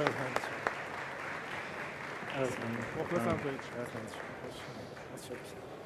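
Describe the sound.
An audience applauds steadily for several seconds to welcome a guest, dense clapping throughout, with a few voices talking and calling out over it partway through.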